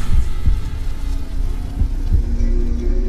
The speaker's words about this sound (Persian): میتونی ضربان قلبم رو حس کنی؟